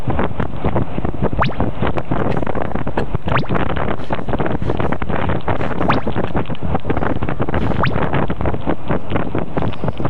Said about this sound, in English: This storm made our little four-cylinder Hero look like a bath toy.